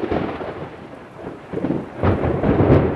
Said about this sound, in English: Strong thunderstorms rolled across the Mississippi River Delta, and Michael Dixon, a lieutenant in charge of oil recovery operations here at the Coast Guard's Venice staging area, says the weather shut down cleanup efforts early for the day.